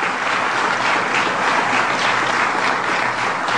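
A crowd applauds two donors for their gift, a dense, loud wash of many hands clapping that holds at an even level for several seconds without pause or voices.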